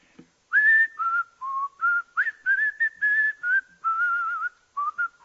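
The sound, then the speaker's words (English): A person whistles a slow, melodic hymn tune alone, a series of clear sustained notes rising and falling in a simple phrase, moderately loud. “And I whistle.”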